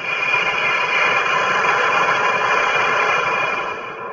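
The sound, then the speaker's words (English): A Japanese high-speed train rushes past with a steady, broad roaring hiss that holds level for several seconds, then eases slightly at the very end. No voices are heard. “probably doesn't do it justice depending on what kind of speakers or headphones you're using, but that's what the train sounds like in Japan.”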